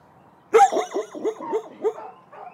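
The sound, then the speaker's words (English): A burst of loud dog barking: about half a dozen sharp, rapid barks in an excited, uneven rhythm from dogs in kennels about 25 feet wide and 10 feet deep, reacting to a stranger with a microphone, led by Bellamy, a 2-year-old brindle mix on top of his doghouse, with no talking. “They see me, a stranger with a fuzzy-looking microphone, and they start doing what dogs do best.”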